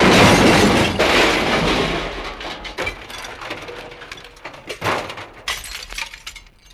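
A glass bottle smashes loudly, a bright crash followed by scattered tinkling shards and debris settling for several seconds, gradually fading.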